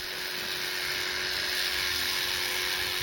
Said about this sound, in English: Their manes are shaved.